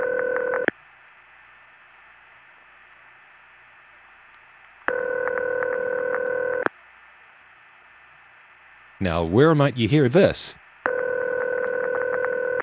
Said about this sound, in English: Well, that's an example of what we called crossbar ring, or crossbar 5 ring. Actually, it was the Southern California freaks who called it crossbar ring because in LA in the 1970s, the only crossbar there was number 5 crossbar